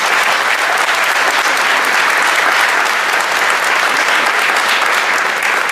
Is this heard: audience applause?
yes